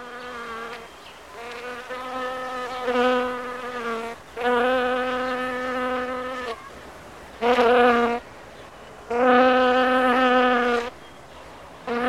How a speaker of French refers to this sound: Bravo, une abeille. Ceux qui ont dit moustique, mouche, ont gagné aussi.